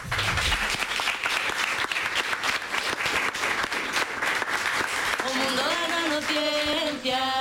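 Loud, dense audience applause with many hands clapping at once, a steady crackling roar that continues for about five seconds before musical tones begin to rise over it.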